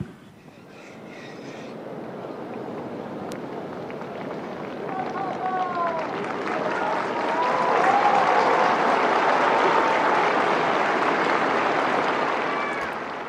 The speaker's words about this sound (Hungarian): Mai napon is tapssal köszönik meg a Szentpéter téren jelenlevő zarándokok Ferenc pápa áldását.